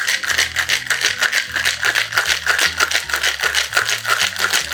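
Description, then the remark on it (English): A cocktail shaker filled with ice, dry French vermouth, Kirsch and strawberry syrup is shaken hard and steadily to make a rose cocktail, ice rattling in quick, even bursts several times a second, with a soft bass-heavy music line underneath and no talking. “And 3 dashes of strawberry syrup. And shake away.”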